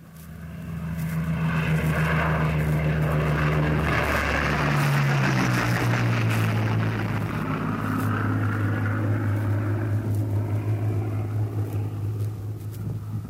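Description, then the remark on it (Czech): A WWII fighter plane's piston propeller engine, of the aircraft that won the Battle of Britain, roars steadily and loudly, its deep droning pitch shifting downward partway through as if the plane passes by, with no voices present. “Slyšeli jste právě zvuk letadla, které vyhrálo bitvu o Anglii.”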